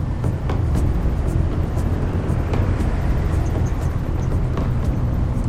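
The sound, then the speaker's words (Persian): Heavy trucks rumble along a road heading north toward the border, in a steady, continuous drone of low engine and tire noise, with occasional faint clanks and hisses over the roar. No one speaks. “مطمئنن این کامیونا به سمت مرز میرن.”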